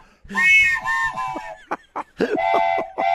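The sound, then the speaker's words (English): A loud borrowed whistle blown in bursts: one long shrill blast, a few quick short toots, then another sustained blast, with no talking. “I borrow your whistle. I'm afraid to put my mouth on it.”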